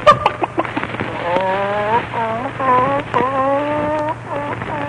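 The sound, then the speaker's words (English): A hen clucks and cackles while laying an egg on a table, in a run of short, wavering calls, some drawn out and rising, over a faint steady background hum. “Here's your little hen. So it is. And it's about time she laid some golden eggs for us.”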